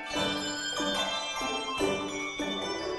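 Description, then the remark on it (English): A handbell choir rings a run of bright chords, struck about every half second so each chord's shimmering overtones hang and overlap the next; steady in volume, with no voices. “Maybe you've seen handbell choirs in churches or schools, or perhaps you've played in one.”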